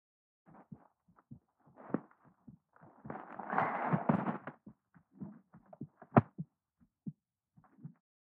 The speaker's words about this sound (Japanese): 聞こえる？私の心臓がドキドキ言ってるの。